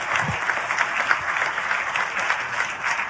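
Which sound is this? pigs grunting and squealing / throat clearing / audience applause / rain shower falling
audience applause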